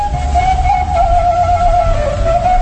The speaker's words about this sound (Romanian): Am un băiat cu fluieraș care va zice frumos.